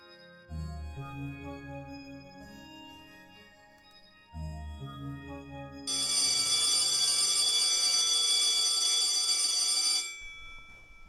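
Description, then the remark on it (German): A school bell rings for break, a loud, continuous metallic clanging lasting about four seconds, preceded by low, tonal chiming notes that pause and start again. “Es hat zur Pause geklingelt.”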